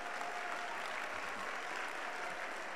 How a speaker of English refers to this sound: Unbelievers are not clapping. Unbelievers are not clapping.